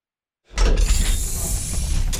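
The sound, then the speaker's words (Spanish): After a brief silence, a metro turnstile mechanism at Baquedano station lurches into motion with a heavy low thud, then a steady grinding, rattling whir that runs on, ending in a sharper click. “Esto es El estallido de las cosas, el último torniquete.”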